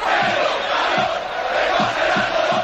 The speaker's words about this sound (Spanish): Que no es solo el campo del Valencia, que es en todos los campos de fútbol. En todos los campos de fútbol hay gritos racistas. Y desde hace muchos años, este es del año 1997,